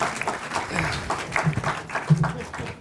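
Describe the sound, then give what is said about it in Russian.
An audience applauds steadily for a few seconds, a dense patter of many hands clapping at once, with a few voices murmuring underneath. “Аплодируем.”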